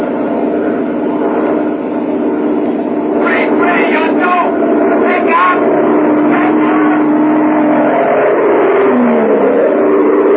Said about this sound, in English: Why, the pilot took his plane back into the sky after the approach failed and headed back for Wiesbaden, 300 miles away in the American zone.